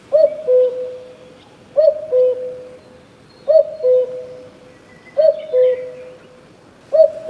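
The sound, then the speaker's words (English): A cuckoo calls its two-note, falling cu-coo five times at an even, unhurried pace, clear, with no voices and only a soft outdoor hush between calls. “That is the cuckoo.”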